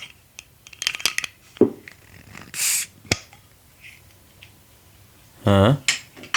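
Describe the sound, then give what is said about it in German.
A bottle of lemonade is handled with light clinks and rattles, then a short fizzy hiss of released pressure and a sharp click as the cap comes off, followed by a louder brief burst of noise. “Es klang, als ob du eine Flasche geöffnet hast.”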